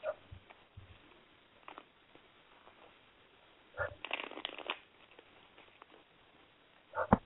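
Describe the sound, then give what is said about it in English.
Cards being shuffled for a love-life card reading, a soft papery riffle with a longer burst of rapid fluttering in the middle and a few quick snaps and taps at the start and end. “Hold on, let me shuffle these cards.”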